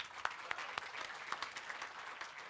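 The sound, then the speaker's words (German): A burst of audience applause, dense clapping from a crowd with a few sharper individual claps standing out, sustained at a steady moderate level throughout. “Einmal Applaus.”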